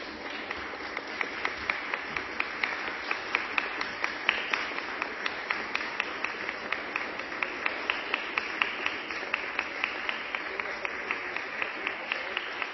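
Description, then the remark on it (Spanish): Sustained applause fills a Spanish-language parliament chamber, with the presiding board (the Mesa) also clapping: many hands clapping in a dense, steady wash with sharper individual claps popping out, holding at an even level for the whole stretch. “No es habitual que la mesa aplauda, pero entenderán que sobran razones para hacerlo y espero que nos entiendan.”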